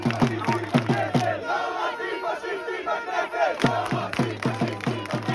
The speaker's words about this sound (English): You'd see a sea of Israeli flags filling the streets. You'd hear drums and kazoos.